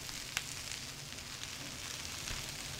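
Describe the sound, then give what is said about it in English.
Dumplings fry in hot oil in the small kitchen of Ahan restaurant in Madison, an hour before opening, a continuous hiss broken by a few sharp pops, with a low rumble of kitchen equipment underneath and no voices. “Water is boiling, chicken is roasting, and dumplings are frying.”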